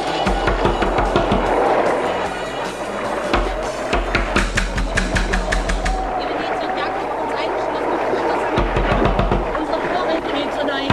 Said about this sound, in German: Gut, dass ich eine Axt mitgenommen habe. Wir werden das Schloss schon aufkriegen. So, das hätten wir.